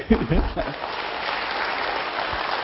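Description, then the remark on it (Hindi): A brief spoken word gives way to steady audience applause, a dense, even wash of many hands clapping that holds at moderate loudness for about two seconds. “ऐसे तो serious topic है, ज्यादा ताली बजाने की बात नहीं है, फिर भी ताली बजा देने की।”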